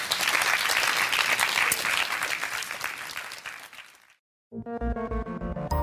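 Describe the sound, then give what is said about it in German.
Steady, dense audience applause for Jens Balzer's talk on pop and populism at Deutschlandfunk Kultur's Das blaue Sofa runs for about four seconds, then fades into a brief silence before a loud, tonal musical jingle begins. “Pop und Populismus, Ihr Applaus.”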